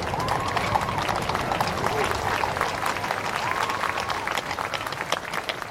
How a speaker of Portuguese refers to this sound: Uma salva de tiros anunciou a saída das carruagens reais de São Cristóvão e Dom Pedro foi celebrado por onde passou com aplausos da multidão.